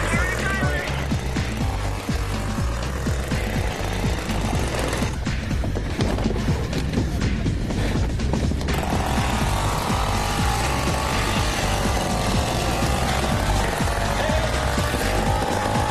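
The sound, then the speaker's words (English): Several custom cruiser vehicle engines run loudly and steadily, a thick low rumble with shifting revving tones that continues without a break for the whole stretch. “So we got engines going for the custom cruisers.”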